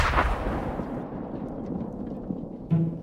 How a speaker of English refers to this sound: She sets up her computers on a little pier that reaches into the center of the pond, looking out over fields of tobacco and sweet potatoes. And she sets off this experimental explosion.